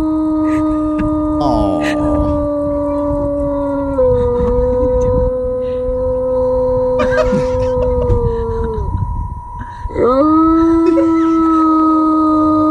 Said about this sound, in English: So as he's coming out of coming under, the owner is taping him, and he's just the dog just appears to be complaining.